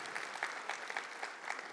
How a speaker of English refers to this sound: Now, everybody clapped on that one. You know why? Because they don't have kids. That's what happened just then.